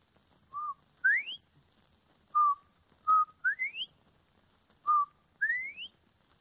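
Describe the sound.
A woman whistles an imitation of a bobwhite quail call three times: a short steady note followed by a sharply rising slurred whistle, clear, with brief pauses between repetitions and no talking.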